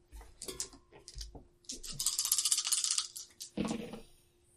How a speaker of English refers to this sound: All right, so roll a number of dice equal to your engineering. Okay. 20-sided? Or... D6s.